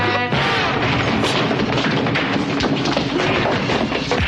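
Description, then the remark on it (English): Heavy punches thud as a sheriff is hit in a fight, amid a dense, loud wall of chaotic scuffling noise, with a few sharper impacts standing out from the constant roar of the struggle. “Oh, there were punches.”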